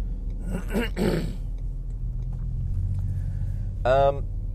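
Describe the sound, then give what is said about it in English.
Dump trucks rumble steadily in traffic at a traffic light, a deep, continuous low engine drone filling the whole stretch, with a person's brief vocal sounds and a groan breaking over it. “oh my god, we didn't even get through this bloody light. Ugh, stupid dump trucks.”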